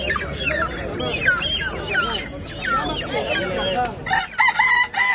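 A crowd of roosters and hens fills the air with overlapping rooster crows and busy hen clucking, loud, with a dense barnyard murmur underneath and no clear speech.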